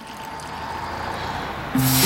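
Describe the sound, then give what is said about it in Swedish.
A steady, hissing rush of water from a running bathroom tap fills the quiet, continuous, swelling slightly brighter near the end. “Det enda som hörs är kranen i badrummet.”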